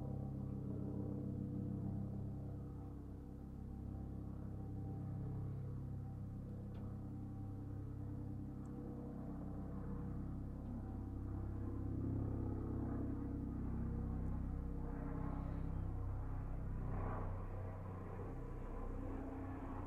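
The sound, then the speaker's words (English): A propeller airplane drones steadily overhead, heard from a boat and recorded with a Rode NT4 stereo mic into a Zoom H5; its low engine hum swells slightly louder midway before easing off, with no voices present. “Listen to that plane for a moment.”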